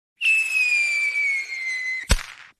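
A firework rocket whistles with a long, slightly falling shriek for nearly two seconds, then bursts in a single sharp, loud bang that trails off quickly. No one speaks.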